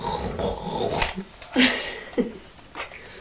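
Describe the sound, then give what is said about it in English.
Rough, rumbling snores, a few raspy breaths in and out with short pauses between them, no one talking. “Well, I can hear somebody snoring.”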